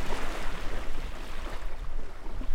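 A small boat grinds and bumps up onto the shore of a little spit of land on the coastal plain of a refuge as waves wash around it, with steady rumbling and splashing noise throughout and wind buffeting the microphone.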